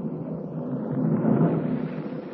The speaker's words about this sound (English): A jagged streak of lightning splits the darkness and thunder crashes overhead.